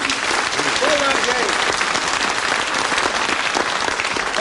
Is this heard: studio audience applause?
yes